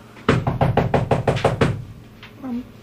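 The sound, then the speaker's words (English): A rapid, insistent run of about eight loud knocks on a door, evenly spaced, followed by a brief pause and a short murmured voice. “I should get the door.”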